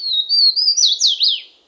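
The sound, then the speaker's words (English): A Swainson's warbler sings a short, ringing song from a tangle of vines in the southern U.S.: a few clear whistled notes slurring into a quick series of downward-sweeping phrases, fairly loud, with no other sounds around it. “Nimble notes ring out from a tangle of vines in the southern U.S.”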